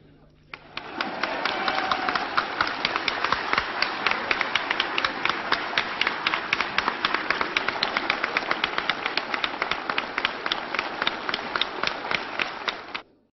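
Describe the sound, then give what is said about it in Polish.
A large assembly in the Polish Sejm bursts into sustained applause during a speech by Korwin-Mikke, dense overlapping clapping that holds steady for about twelve seconds with faint rhythmic accents before cutting off. “Sądząc z oklasków, nie muszę tego uzasadniać.”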